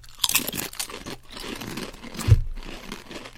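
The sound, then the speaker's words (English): Loud, crisp crunching of peppery steak-spice flavored potato chips being bitten and chewed, with sharp crackly bursts early on and a heavier crunch near the end, no voices. “Chip cheers.”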